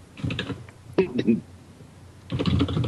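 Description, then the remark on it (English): Clatter of fingers typing on a computer keyboard, coming in quick bursts with short pauses between, while people talk in the background. “stop typing.”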